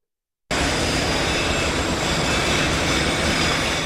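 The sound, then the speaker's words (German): After a brief silence, the ambience of the busy Zürich train station on a Monday in November cuts in abruptly: a loud, steady wash of rumbling machinery and clatter, with noise from construction going on everywhere blending into the din. No one speaks. “Ein Novembermontag im Zürcher Bahnhof. Es wird gebaut. Überall.”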